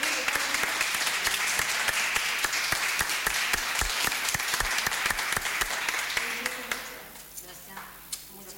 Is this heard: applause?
yes